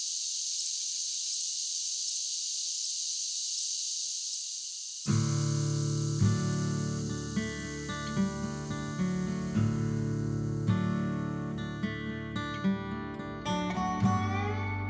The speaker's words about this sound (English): I'm sitting on an old porch swing in Oak, Arkansas. It's late, nearing midnight, and the stars are bright enough to light up an old barn nearby. This is where I was born, and you're hearing the last of the fall cicadas.